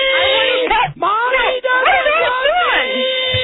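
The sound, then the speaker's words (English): A person sitting in a car imitates their upset pet cat, wailing in a drawn-out, cat-like yowl, the voice sliding up and down in pitch across several rising and falling cries with brief breaks between them. “I'm being the goddamn cat.”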